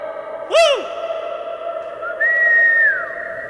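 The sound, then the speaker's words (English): A single voice calls out with a quick rising-and-falling shout, then a drawn-out higher call. Each lingers in a long, ringing echo inside an underground concrete stormwater overflow storage basin the size of a football field, 25 feet beneath basketball courts on Venice Island in Manayunk, Philadelphia. “I'm standing in a concrete room the size of a football field, 25 feet underneath basketball courts on Venice Island.”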